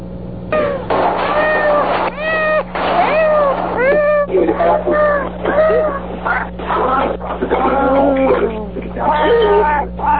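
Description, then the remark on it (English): A compilation of loud cat meows in a rapid string, one after another with barely a pause, varying in pitch and length, some drawn out and wailing, over a faint steady hum. “A compilation of meows. It's definitely a cat that I wanted you to hear.”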